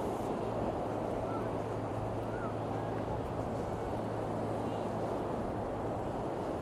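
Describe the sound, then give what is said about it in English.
A steady roar of ocean waves breaking on a beach, heard on a walk along the beach toward the Point of Air lighthouse, fills the whole recording, with a faint low droning hum running underneath and some wind buffeting. “I just love the roar of the...”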